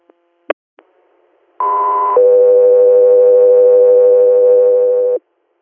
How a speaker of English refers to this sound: standby for tones